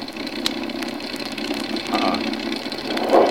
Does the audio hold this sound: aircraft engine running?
yes